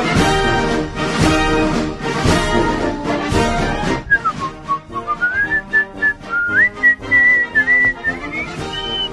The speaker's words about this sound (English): I'm whistling Dixie